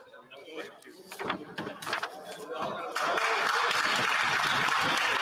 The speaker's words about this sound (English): Évidemment, on a un côté libéral qui applaudit grandement.